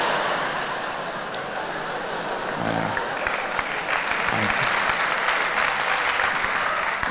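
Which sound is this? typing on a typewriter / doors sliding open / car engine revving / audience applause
audience applause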